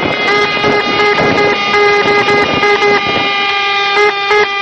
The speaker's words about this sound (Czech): Navijači BH reprezentacije sinoć su pola sata do ponoći priredili vatromet sa Crkvičkog brda, a ulicama grada trubile su sirene automobila i motora.